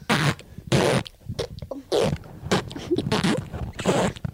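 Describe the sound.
A girl makes a string of loud fart noises with her mouth, about half a dozen buzzy, sputtering raspberries in quick, uneven succession with no talking.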